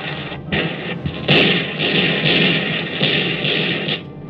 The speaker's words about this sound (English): Suddenly, the sky was full of them. Not a million miles away doing tricks, but breathing right down our throats. They came out of nowhere, and their cannons began to spit.